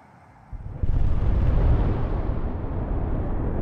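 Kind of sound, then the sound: sound effect, distant explosion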